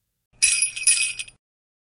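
Sleigh bells jingle for about a second in a few quick shaken bursts, a bright, high, shimmering metallic rattle that stops abruptly, with no voices.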